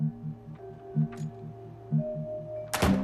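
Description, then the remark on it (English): A steady, pulsing low electronic hum runs throughout, then near the end a door off a corridor, with a green flashing triangular light above it, thuds shut once, loud, with a heavy low thump. “He enters a door with a green flashing triangular light above it.”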